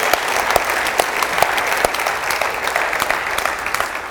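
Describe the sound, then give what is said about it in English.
An audience claps hands in praise, a dense, steady wash of applause with a few sharper individual claps popping out, sustained and fairly loud throughout with no voices standing out. “Let's give God just a crazy hand clap of praise.”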